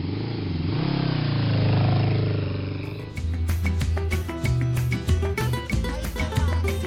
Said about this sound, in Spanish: Se alista, se coloca sus jeans y camisa desgastada, sus botas de caucho y sale de la casa con su compañera de viaje, su vieja y sucia motocicleta.